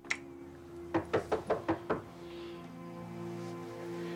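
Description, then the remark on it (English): Six quick, evenly spaced, fairly loud knocks rap on a door, made by a middle-aged man in a suit, followed by a quiet steady hum with no talking. “There's a middle-aged man in a suit at the door.”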